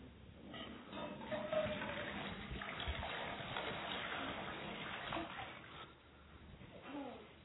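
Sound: running water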